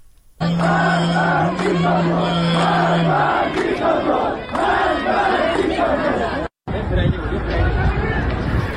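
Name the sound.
crowd chanting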